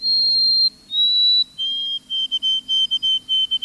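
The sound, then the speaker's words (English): A white-throated sparrow sings its clear whistled song: two long, pure notes followed by a quick run of shorter repeated notes at a slightly lower pitch, clear. “The white-throated sparrow's melancholy whistle is hauntingly beautiful.”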